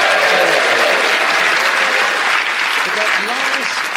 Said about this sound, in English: So I think we'll give you a round of applause for coming there.